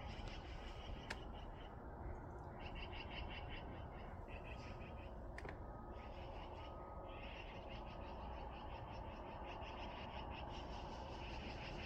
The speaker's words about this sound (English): I hear what sounds like a magpie arguing with Duck.